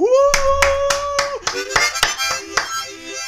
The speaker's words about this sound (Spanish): Aplaudan mierda.